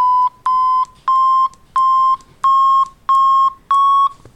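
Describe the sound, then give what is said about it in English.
A graphing calculator's audio graph sounds seven evenly spaced electronic beeps as the right arrow key is pressed to walk through the graph, each a bright buzzy tone, the pitch creeping slightly higher from one beep to the next as the graph goes up. No one speaks. “As you can hear, it's going up.”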